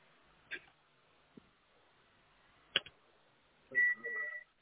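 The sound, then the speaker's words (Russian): A phone being dialed: a few scattered clicks and taps, then a short run of steady, mid-pitched electronic tones near the end. Fairly quiet, with no talking. “Сейчас, секунду, я телефон звоню.”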